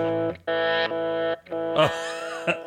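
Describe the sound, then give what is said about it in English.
An Avalanche Run V2 delay-reverb pedal, a custom white and black edition, set to reverse mode: sustained, swelling tones fade in and out in several washes, ending in a smeared, echoing texture. Fairly loud, with no talking. “It's kind of a delay reverb.”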